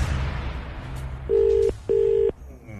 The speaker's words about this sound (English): Oh, where am I ringing? Athenry. Athenry. It's ringing.